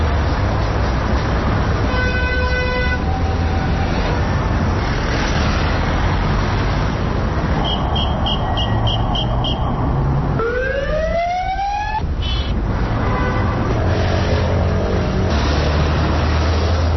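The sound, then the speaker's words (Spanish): Busy Madrid city street noise on European Car-Free Day, with a constant rumble of traffic, punctuated by several car horn toots and a rising wail of a passing siren; no one speaks. “De los coches de la capital, el de siempre, y ninguna medida por parte del ayuntamiento para fomentar que todos celebremos este Día Europeo Sin Coches.”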